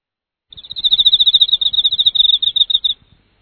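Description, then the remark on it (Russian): A cricket chirps in a rapid, steady run of high-pitched pulses for about two and a half seconds, fairly loud and alone, with no voices, in the evening as autumn approaches. “Если летом вовсю слышно неугомонное стрекотание цикад, то с приближением осени по вечерам слышим стрекотание сверчков.”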